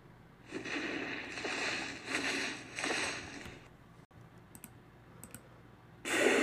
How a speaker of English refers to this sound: That's a whale. Now, Gary said he didn't get any vocals of a whale that he liked, but their blowhole made good breathing sounds for the T-Rex.